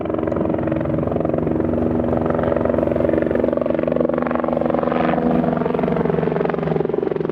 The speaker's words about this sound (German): So hat es heute Morgen beim Kalender in Chur getönt. Immer wieder ist ein Helikopter im Rigo Wasser holen und hat das dann über dem Zielhang vom Militärübungsgelände entleert.